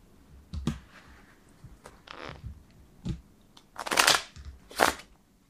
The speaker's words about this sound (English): Is this the best shuffling you've ever seen? I mean, it's not bad. It's not the worst.